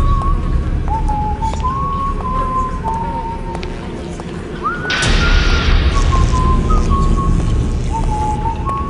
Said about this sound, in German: vor allem, weil der eine Hauptcharakter des Spiels so eine wirklich psychotische Melodie immer pfiff und die blieb einem echt so im Kopf. So, das ist auch die Melodie, die man im Trailer hört und die fand ich schon sehr cool.